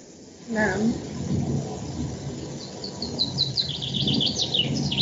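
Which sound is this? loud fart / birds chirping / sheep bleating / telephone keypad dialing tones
birds chirping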